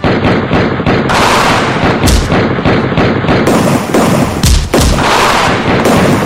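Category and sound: sound effect, gunshots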